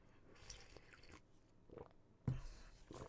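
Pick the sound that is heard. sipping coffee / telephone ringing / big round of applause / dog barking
sipping coffee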